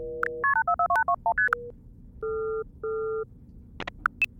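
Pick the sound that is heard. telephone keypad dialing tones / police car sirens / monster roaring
telephone keypad dialing tones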